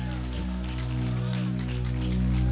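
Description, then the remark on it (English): A crowd claps together in a dense, continuous patter that holds steady and grows slightly louder toward the end, over a sustained low droning tone. “Oh, clap your hands.”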